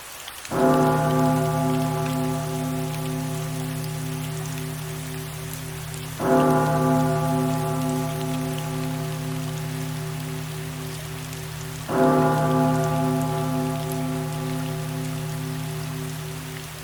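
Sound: steady rain falling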